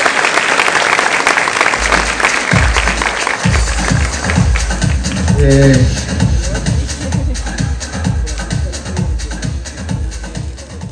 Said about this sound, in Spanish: Bueno, un aplauso por favor a todos sus líderes.